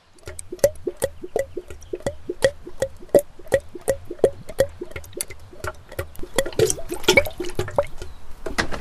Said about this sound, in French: Il a fait le plein d'essence.